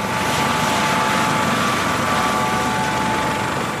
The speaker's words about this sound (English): And now I'm going to head to Puerto Rico in my personal helicopter.